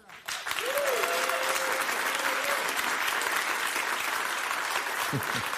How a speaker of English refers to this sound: Right. This guy speaks and applause breaks.